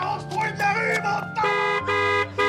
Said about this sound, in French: Ils bougent au rythme des klaxons et la foule les encourage.